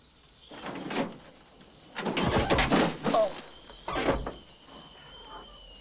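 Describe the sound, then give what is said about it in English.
A pickup truck swerves off the road to avoid a horse box, turns over and rolls down a bank, with a series of heavy crunching impacts in bursts separated by brief lulls, while a faint high whine hangs in the background. “The pickup turns over and rolls down a bank, coming to rest on its wheels, but badly smashed up.”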